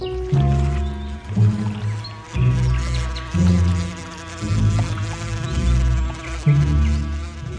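A wasp buzzes loudly, a steady droning hum that swells and dips in uneven pulses for several seconds, with no voices present.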